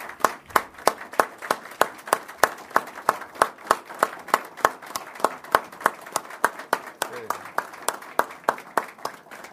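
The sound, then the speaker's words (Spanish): A crowd claps together in a steady, rhythmic beat, about four sharp claps per second, loud, with a faint murmur of voices underneath, applauding motorcycle and bicycle delivery riders who are receiving certificates. “A ellos los tenemos que aplaudir, porque, miren, cuando arrancamos con esto, por favor, párense que queremos aplaudirlo a los que están recibiendo.”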